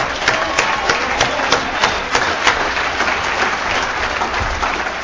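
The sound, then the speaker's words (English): Steady applause from a convention crowd, a dense wash of many hands clapping with sharp individual claps popping out, sustained at an even, fairly loud level throughout. “And we got to give these people a round of applause.”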